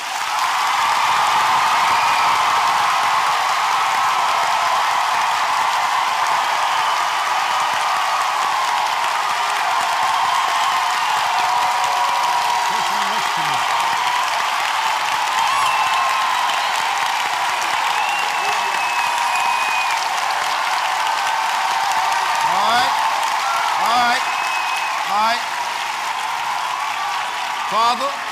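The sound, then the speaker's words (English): A church audience claps loudly and steadily for nearly half a minute during a service, a dense wash of applause, with scattered voices calling out over it toward the end. “You clapping for the person next to you going to receive tonight. Ready? Clap.”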